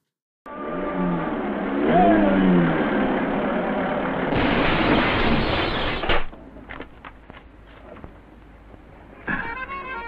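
A car engine hums and revs as the car arrives in a small country village, then a loud harsh roar of noise from a road accident cuts off abruptly, followed by scattered clattering knocks and another brief burst near the end.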